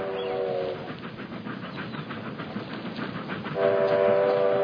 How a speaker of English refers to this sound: Get off the tracks. You're crazy. Train dodge.